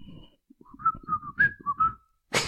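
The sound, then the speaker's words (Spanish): A person whistles a short, eerie tune of several sliding notes, clear, with no talking, as the whistle of El Silbón, a wandering spirit of Venezuelan legend; a brief burst of noise cuts in right at the end. “Y silba, por eso le dicen el silbón, obviamente.”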